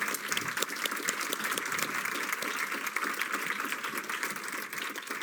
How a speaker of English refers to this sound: I'd like to offer a round of applause for all four candidates.